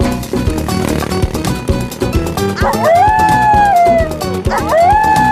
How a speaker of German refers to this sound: Oh nein, das sind Kojoten. Oh oh, Leguane haben Angst vor Kojoten.